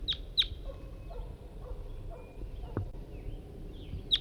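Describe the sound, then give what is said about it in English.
A male bird calls with sharp, high chip notes: two quick ones at the start and another near the end, clear over a soft outdoor background where a net has been set up. “I just got out here a few minutes ago, set up the net, and I've only got bird 5-3 with me, and that's him calling right there.”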